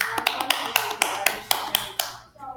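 Steady, evenly spaced clapping to welcome a guest scientist in a video about lab tools, roughly four sharp claps per second for about two seconds, over a bright background hiss, ending abruptly.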